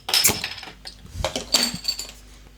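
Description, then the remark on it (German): Metallic clinks and scrapes as a bottle opener works at a glass bottle of fruit lemonade, followed by a sharp snap as the cap comes free, then a few lighter clinks. “Das ist mein Flaschenöffner.”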